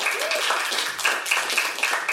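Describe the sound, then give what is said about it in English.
A crowd applauds a special guest in a steady, dense wash of applause that holds for a couple of seconds, with a few short high whistles and a brief cheer mixed in. “Everyone, please give a warm round of applause for our special guest”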